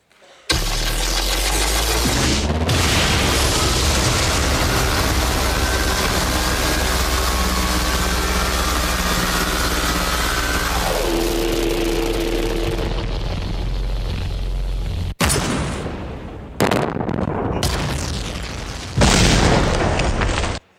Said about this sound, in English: That is exactly what it's like to 3D print, and here is your elephant.